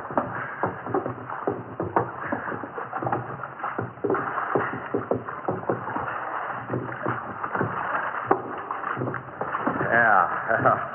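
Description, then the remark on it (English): Oars dip and splash through water in a steady rowing rhythm as a boat is rowed, with knocks and sloshing as muffled voices murmur underneath. “Lay on those oars. Lay on them, will you?”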